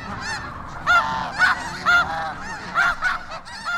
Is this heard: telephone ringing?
no